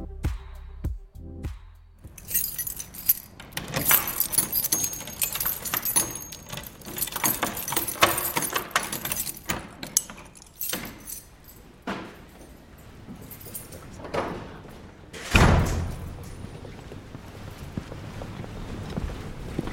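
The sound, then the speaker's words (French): Keys jangle and clink steadily as at least 15 doors are unlocked each morning from 6 a.m. in a church on the Île de la Cité, with a heavy door thudding shut partway through, followed by more metallic rattling and faint shuffling. “Tous les matins, il y en a, je ne dis pas bêtises, il y en a au moins 15 portes.”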